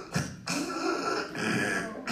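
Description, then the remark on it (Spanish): A person imitates a dying, infected dog's labored grunting: a few long, raspy, strained breaths pushed out one after another, fairly loud, with no other sounds around them. “Salimos con nuestro perro y el perro nomás hacía.”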